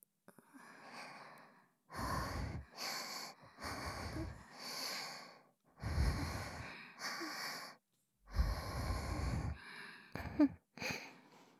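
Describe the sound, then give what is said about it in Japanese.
Heavy panting, roughly ten loud, breathy bursts in a steady rhythm separated by short pauses, some low and rasping, with a few quicker, sharper breaths toward the end and no talking. “でもそれなら、もっとはぁはぁしていいってことですよね。”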